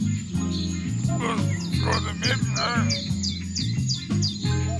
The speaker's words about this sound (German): Ja, was ist denn da los, Papagei? Da was los?